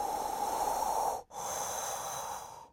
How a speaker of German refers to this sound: Erstmal einatmen, ausatmen und sich dann überlegen, muss ich das jetzt noch so tun oder ist jetzt eigentlich alles schon viel besser?